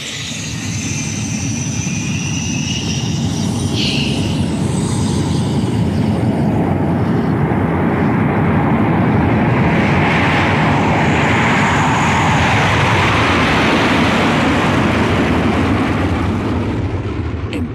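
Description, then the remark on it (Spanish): A jet plane's engines roar loudly and continuously as it takes off down an airport runway at night in Morocco, a dense rumbling blast with a rising whine sweeping upward as the aircraft gathers speed. “La pista está despejada. y el poderoso jet inicia el despegue.”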